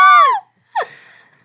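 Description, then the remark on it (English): Two hosts let out two loud, excited screams: a long high-pitched shriek that slides downward, a brief pause, then a shorter yelp that trails off into breathy noise. “If this makes it to the podcast, I'm going to scream.”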